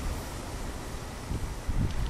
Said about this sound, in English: Okay, it's a Thursday, 6 o'clock. We're watching waves crashing here at Waikiki Beach in Honolulu. And we are facing the sunset right now.